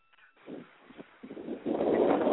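wind blowing

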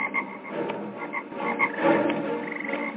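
frogs croaking

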